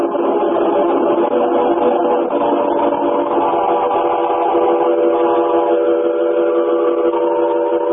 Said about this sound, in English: But the train's pulling out, lad. You better be getting back aboard.